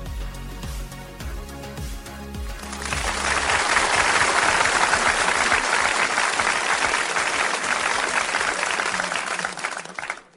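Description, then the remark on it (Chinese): A short stretch of music gives way to loud, sustained audience applause welcoming a teacher to the Digital Lecture segment of the show Digital World, a dense crackle of many hands clapping steadily for about seven seconds before cutting off. “掌声欢迎海波老师”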